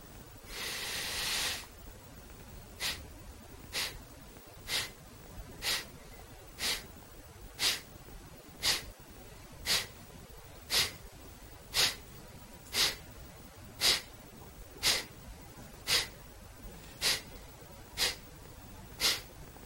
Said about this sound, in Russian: Я показываю замедленно, как делать капалабхати. Рекомендуется сначала делать очень медленно.